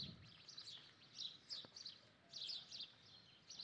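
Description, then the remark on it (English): Birds chirp in quick, bright bursts over soft ambient background, several calls overlapping with short pauses between. “Feel the earth, the dirt under your feet, and the wind caressing your body, and the coolness, and the chirping, joyful mornings of the birds.”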